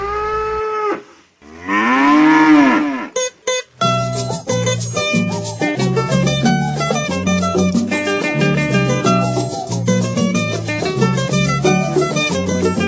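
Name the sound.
ox mooing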